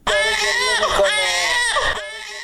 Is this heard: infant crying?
yes